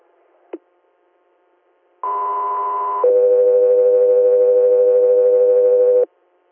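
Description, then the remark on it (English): Radio dispatch alert tones for unit Echo 3: a brief click, then a loud steady higher tone for about a second, switching straight to a lower steady tone held for roughly three seconds, with no talking. “Echo 3, stand by for tones.”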